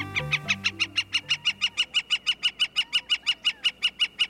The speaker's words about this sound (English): A large, tawny woodpecker undulates in flight, flashing golden underwings as it lands atop a tall cactus. The bird is a gilded flicker, and the cactus is a saguaro, the tall cactus with upswept arms emblematic of the Arizona desert.